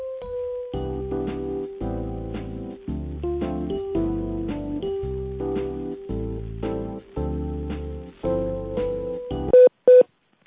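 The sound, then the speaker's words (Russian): Telephone tones play during a call transfer: a steady run of electronic tones with rhythmic breaks, ending in a couple of short, sharp beeps. No one speaks. “Я попробую переключить, если не получится, перезвоню.”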